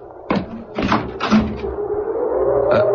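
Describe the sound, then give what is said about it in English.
A door being opened to a visitor standing outside in the cold: a handful of sharp clunks and rattles of the latch and frame, followed by a steady low hum that lingers to the end. “Someone's at the door.”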